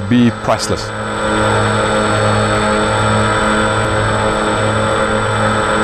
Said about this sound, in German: Die Drohne, die die Nashörner vor den Wilderern in der Savanne schützen könnte, das verlängerte Auge der Wildhüter, aber vielleicht auch schon bald ein autonomes Überwachungssystem.